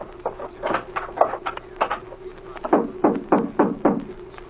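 household object, knocking

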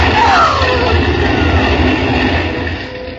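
vehicle, fire engine approaching

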